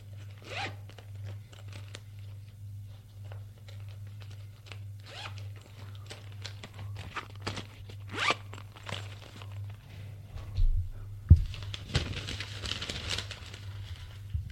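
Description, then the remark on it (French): Rummaging in a leather satchel as a notebook and pen are taken out: soft creaks and shuffles, a few sharp clicks, then a quick zipper pull near the end, all over a low steady hum with no voices. “Il sort de son cartable en cuir un cahier, stylo, pour faire plus sérieux.”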